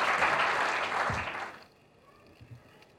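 A crowd applauds with dense, steady clapping for about a second and a half, then it stops abruptly, leaving quiet background noise with a few faint stray sounds.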